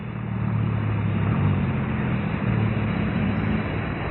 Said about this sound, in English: Say, the car coming up the hill. So it won't stop.